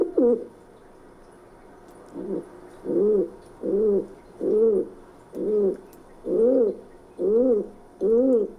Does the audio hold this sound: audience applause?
no